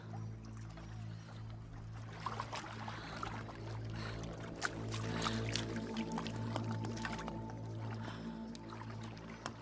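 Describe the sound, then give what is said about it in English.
A water sample is poured, drops are added into a vial and the vial is shaken, with small liquid splashes and trickles over a steady low droning hum that runs the whole time. “She adds the drops into the vial, then shakes it.”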